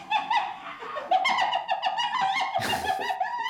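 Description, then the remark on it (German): A spotted hyena's high, giggling laugh: a rapid run of stuttering, rising-and-falling yelps with bright harmonics, continuous for a few seconds, with a harsher burst near the end. “Es ist eine Lachhyäne oder auch Tupfelhyäne genannt.”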